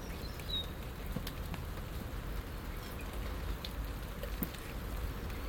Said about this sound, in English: So pleasant just standing here, leaning against the shed in the dry and listening to the rain, watching the birds.